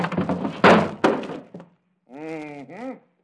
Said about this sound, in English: Hey, what are you trying to do to that door? Take it off the hinges. What for? You'll find out.